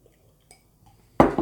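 household object, glasses clinking

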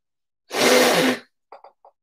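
human body sound, nose blowing

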